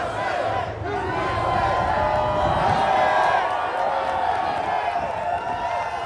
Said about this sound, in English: And the crowd went wild. And boy, and they're on our side.